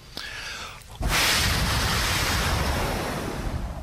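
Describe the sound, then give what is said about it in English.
After a second of faint background noise, a sixth barrel of water suddenly gushes out onto a sacrifice, a loud, continuous rushing splash that keeps pouring until the end. “Sechs Eimer Wasser.”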